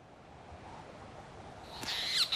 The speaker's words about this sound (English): That is a petrel. It's a storm petrel. Native to the southern Arctic Circle. What's it doing here? I don't know. The north wind blows strange things into this town.